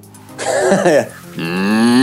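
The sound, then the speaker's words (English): A person imitates a bull with two loud, drawn-out moos: a wavering, throaty bellow followed by a lower, steadier rising groan, no other talking. “Oh, that's a good bull.”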